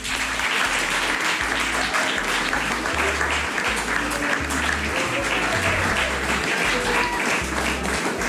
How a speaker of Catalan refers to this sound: fem-los un fort aplaudiment.